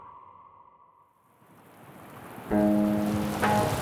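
In the evening, rain hisses and slants in on a rising, gusting wind. A steady tone fades out beneath it, then a loud, sustained harmonic drone cuts in over the downpour near the end.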